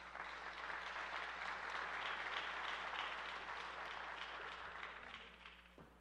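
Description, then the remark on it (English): Steady applause from an audience at a public meeting for the Hines Rays team representing the Hines Historic Gas Plant Partnership, a dense wash of many hands clapping at a loud, even level for several seconds before gradually thinning out toward the end. “Another round of applause for the Hines Rays team representing the Hines Historic Gas Plant Partnership.”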